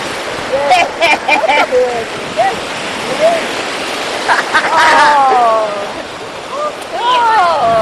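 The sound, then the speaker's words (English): Steady rushing wash of Mediterranean Sea waves breaking on the shore, a continuous loud surf noise, with people's voices calling and talking over it throughout. “This is the Mediterranean Sea, everybody.”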